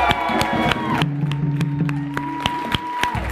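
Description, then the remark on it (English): A conference audience applauds the drummers with dense, steady clapping, joined by cheers and sustained whoops that hold a few steady pitches before fading near the end. “Let's get a round of applause for Will.”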